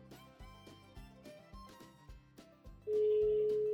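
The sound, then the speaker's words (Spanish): A telephone ringback tone starts near the end: a steady, loud, unbroken electronic hum that follows a few seconds of pulsing, rhythmic tones. No one speaks. “Vamos a hablar por teléfono, a ver si lo logramos.”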